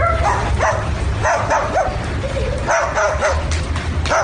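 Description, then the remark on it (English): A parrot, taught to bark because of the dog, mimics a dog's barking with a string of short, yappy barks and yips in an uneven rhythm, fairly loud, over a steady background hiss with no talking. “Here's a barking bird.”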